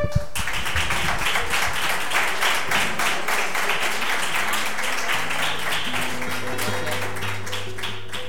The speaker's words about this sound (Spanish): Y lo vamos a recibir, como en las anteriores ocasiones, con un cariñoso aplauso.